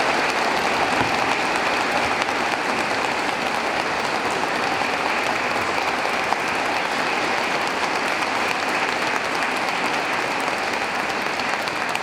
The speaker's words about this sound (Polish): Jeszcze raz wielkie oklaski dla młodych, którzy tutaj dzisiaj nam kolędowali.